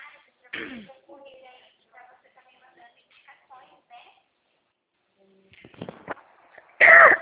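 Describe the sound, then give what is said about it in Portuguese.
Two sharp, harsh coughs from a man being guided through a banking app, one near the start and a louder one at the end, separated by stretches of quiet, muffled talking. “Aí, ó, o senhor ficou tossindo aí, agora eu tô tossindo aqui também.”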